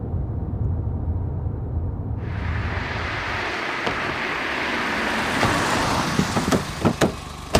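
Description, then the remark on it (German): A car engine rumbles low as the car takes the first free parking space near Hamburger Bahnhof in Hamburg, then a broad hiss swells as the motor winds down and cuts out, followed by a few sharp clicks and knocks near the end. No one speaks. “Das Auto steht kaum, da springen Jeremiah und Adriana auch schon hinaus”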